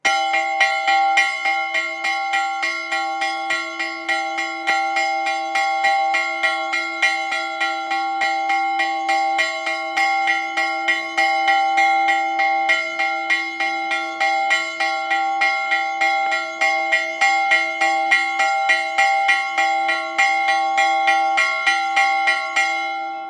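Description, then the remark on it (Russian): A nabat alarm bell rings loudly and urgently, struck in a rapid, steady stream of clangs whose rich tones hang and overlap, continuing without pause for the whole stretch with no voices. “А давайте послушаем, как звучит набат.”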